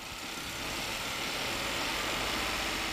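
car engine running

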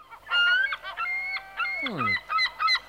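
seagulls calling

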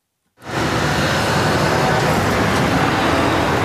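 trucks arriving

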